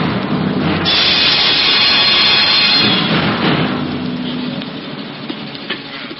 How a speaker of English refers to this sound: Aye, the storm that raged that night round the rugged battlements of the castle of Cedric reflected well the tempestuous temper of the times.